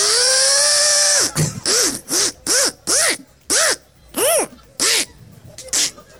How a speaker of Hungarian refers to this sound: Ez nem egy kisméretű fúró. Valaki csővezetékbe ütközött a Hiltivel. Elakadt a fúró